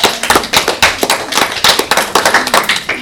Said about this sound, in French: On peut les applaudir pour la participation.